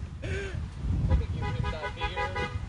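Car horns beep in short overlapping bursts, with a steady tone early on and then a cluster of repeated honks, all over a low rumbling traffic-like background.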